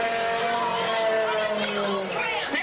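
A race car engine roars loudly and continuously, its high, buzzing whine holding steady with slight rises and dips in pitch across the whole stretch.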